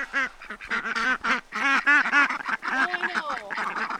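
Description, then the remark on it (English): Several ducks kept for their eggs quack loudly in a steady, overlapping stream of nasal calls, with no pauses and no one talking. “Then there's the ducks.”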